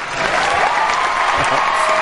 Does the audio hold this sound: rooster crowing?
no